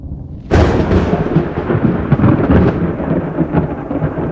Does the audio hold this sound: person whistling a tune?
no